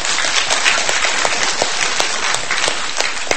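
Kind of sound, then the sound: crowd, audience applauding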